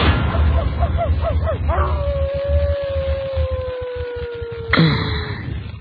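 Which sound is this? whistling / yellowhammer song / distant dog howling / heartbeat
distant dog howling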